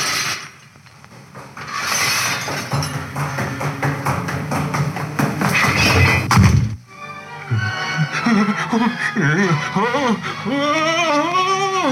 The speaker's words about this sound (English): The sound grew louder on the cellar stairs, rose higher in the empty halls below, then clanged and clattered on the stairs behind Scrooge as he fled.